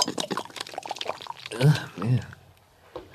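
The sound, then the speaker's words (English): A thick, watery pumpkin pie mixture is swirled around inside a bucket, sloshing in a wet churning, with brief vocal sounds partway through before it trails off quieter. “Water pie. I'm going to swirl this around.”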